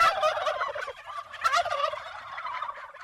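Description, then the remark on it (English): A flock of large turkeys, feathers on full display, gobbling loudly and continuously on a sunny early October afternoon, overlapping rattling calls with no pauses, and no one talking. “I met the Caveneys turkeys, most of whom were larger and thus slightly more intimidating than I'd expected”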